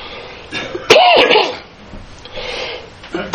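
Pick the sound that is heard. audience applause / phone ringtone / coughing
coughing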